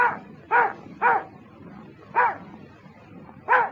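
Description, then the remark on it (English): A dog, Toby, barks five times in short, mid-pitched yaps when asked how much is three and two. The barks are unevenly spaced, with a longer gap before the last two, over a low, steady background hum. “How much is three and two?”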